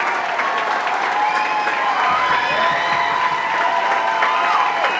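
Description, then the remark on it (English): A concert crowd applauds and cheers continuously as the band waves goodbye at the end of its set, a dense wash of clapping with scattered whistles and shouts rising through it, steady and loud for the whole stretch. “The band waves goodbye to a crowd that just might not let him go.”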